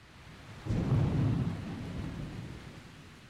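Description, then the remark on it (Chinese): A deep rumble of thunder outside rolls in suddenly and lingers for a few seconds before fading, with a steady hiss of rain underneath, moderately loud. “你听，外面还在打雷，我一个人睡会害怕的。”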